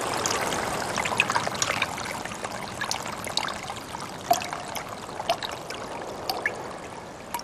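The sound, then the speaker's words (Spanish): The Naya River, which divides Valle and Cauca and flows to the Pacific Ocean, flows steadily inside an indigenous reserve, its broad rushing wash punctuated by small splashes and trickling gurgles, with no voices present. “Después de caminar 7 minutos, llegamos hasta el río Naya, famoso por dividir el valle y Cauca entre montaña y montaña, desembocando finalmente al Océano Pacífico, abajo por Buenaventura.”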